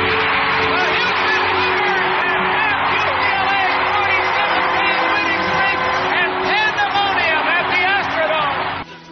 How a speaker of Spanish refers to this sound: No se oye nada, normal. Había 55.000 seguidores gritando, dejándose la garganta en el momento en el que UCLA terminaba con su racha de 47 victorias consecutivas.